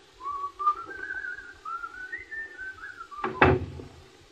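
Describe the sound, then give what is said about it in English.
Someone whistles a wavering tune for a few seconds, then a door closes with a single solid thud near the end. “Come on, dear. Through the door.”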